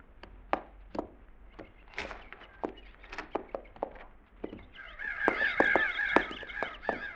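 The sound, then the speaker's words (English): Crows that had been flushed and went back to eating caw in a loose, overlapping chorus, harsh calls repeating irregularly, growing denser and louder toward the end with sharp knocking sounds scattered throughout. “Them crows we flushed back there went back to eating again.”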